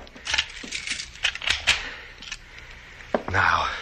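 household object, door being locked

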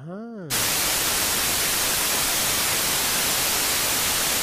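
signal or alarm, TV static white noise

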